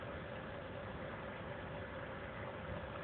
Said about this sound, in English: It is unfortunate that that background noise cannot be eliminated completely because those are the cooling fans which keep the computers cool.